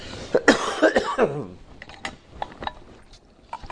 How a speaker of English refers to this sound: When I get to talking, then I get to coughing.